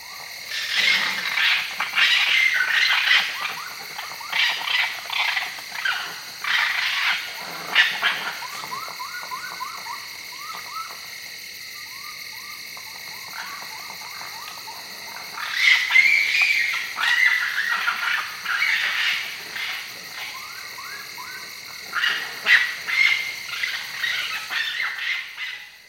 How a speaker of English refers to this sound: When quarreling, raccoons whine, squeal, and even bark, and sometimes produce a blood-curdling performance that one could easily confuse with a cat fight.